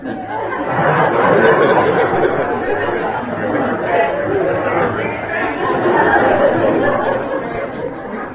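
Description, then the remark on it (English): A crowd of people imitates frog croaks all at once, a dense, steady babble of overlapping throaty voices with bits of laughter mixed in, loud throughout the whole stretch. “And they all started making the sound of frogs.”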